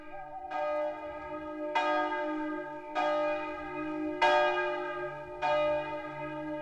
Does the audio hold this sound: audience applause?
no